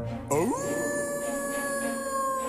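A single long wolf howl starts with a quick upward glide and then holds a steady, clear tone. It sounds close and fairly loud, with no talking.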